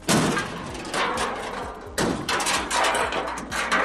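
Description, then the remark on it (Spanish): Police officers batter down the door of an industrial warehouse used for growing marijuana in Cadrete: loud, heavy blows land roughly once a second, five or so in a row, each followed by rattling, splintering clatter. “Así entraban los agentes, tirando la puerta abajo.”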